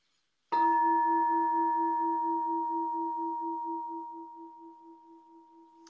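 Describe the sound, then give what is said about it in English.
A single bell strike rings out alone, its clear mid-pitched tone hanging on for several seconds with a gentle pulsing waver as it slowly fades. “Oh, don't you love how the bell is just a, for instance, you know, you can talk about it all you like, and then there's the bell.”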